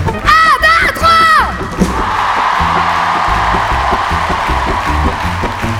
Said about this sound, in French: je voudrais qu'on fasse un gros big up et qu'on crie très très fort. Tous les gens qui travaillent au Festival de La Rochelle.